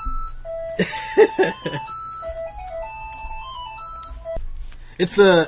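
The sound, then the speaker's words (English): A phone ringtone plays a simple stepped electronic melody, steady and moderately loud, while a person talks briefly near the start and again at the very end. “Oh, your phone is ringing.”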